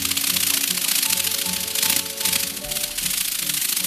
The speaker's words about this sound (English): And if that sounds more like a mechanical insect than a mini helicopter, that's the point. A biologically inspired micro drone that flaps and claps.